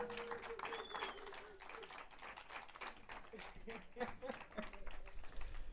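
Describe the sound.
A crowd applauds a clarinet player with dense, steady clapping that holds at a fairly even level throughout, with a faint tonal voice or instrument drifting under the noise early on.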